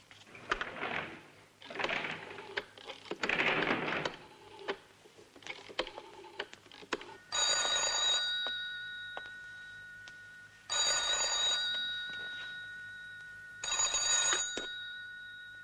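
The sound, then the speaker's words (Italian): Several seconds of clattering and rustling, then a telephone by the door rings three times, each steady, bright ring lasting about a second with roughly three-second pauses between them. Nobody speaks. “C'è un telefono qui.”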